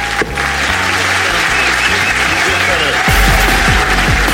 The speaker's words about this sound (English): Will you please give a massive round of applause to Shappy Kosandy, ladies and gentlemen? Thank you. Wonderful Shappy Kosandy.